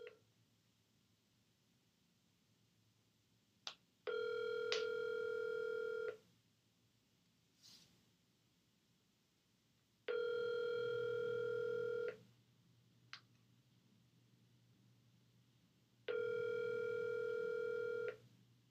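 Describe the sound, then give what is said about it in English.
A steady electronic phone tone sounds after the other caller hangs up, in three long bursts of about two seconds each, evenly spaced with quiet gaps and faint clicks between them, loud with no voices. “She just hung up now.”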